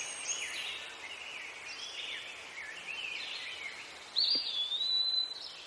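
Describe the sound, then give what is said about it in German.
Birds chirp and trill continuously in a quiet forest, their high calls layered, with a brighter whistle joining near the end. “Die Vögel zwitschern.”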